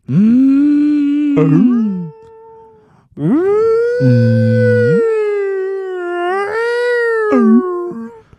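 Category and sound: vocal imitation, voice imitating whale song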